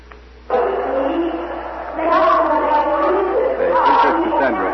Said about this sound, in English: Big crowd growing every minute. It seems as if every citizen of Troy is coming into this market square carrying torches. The people are listening quietly, intently. They seem unable to make up their minds.